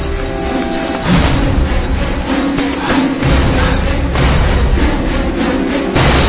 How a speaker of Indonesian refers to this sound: Suara rantai besi yang bersautan, ini suara cambukan.